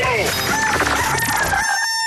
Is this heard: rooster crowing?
yes